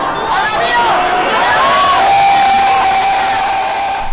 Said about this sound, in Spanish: Gritan con euforia, como si con sus gritos quisieran darle músculo al luchador para hacerlo ganar ante las trampas de los rudos. Es la porra que ve la lucha de pie, sin comodidades, en donde la multitud arropa y la individualidad se diluye.